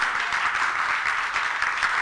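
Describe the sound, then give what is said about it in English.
A crowd at a Charismatic Church worship service claps together in a steady, dense wash of applause, many hands at once, fairly loud and sustained without any voices on top. “Oh, you're not clapping.”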